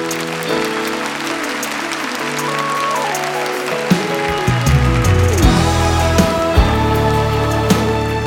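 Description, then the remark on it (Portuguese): A worshipping crowd claps steadily in a dense, sustained wash of applause, with sustained keyboard chords and a bass line playing underneath throughout. “Se você é um adorador, aplauda o Senhor e cante comigo essa canção.”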